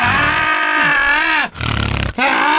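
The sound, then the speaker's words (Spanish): A voice loudly imitates heavy snoring, a harsh rasping, growling drone, broken by two quick falling breaths before the rumbling resumes. “Pero roncaba machín, loco.”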